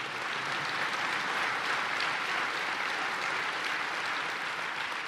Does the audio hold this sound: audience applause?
yes